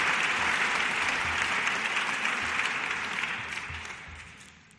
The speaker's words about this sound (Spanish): Ovación al presidente de la Junta, José Luis Herrera, que se ha emocionado al leer esta carta, y es que no es para menos.